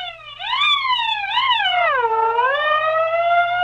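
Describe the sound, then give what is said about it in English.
A fire engine siren blares loudly, its wailing tone rising and falling in long sweeping glides, with no one speaking over it. “I blew my siren.”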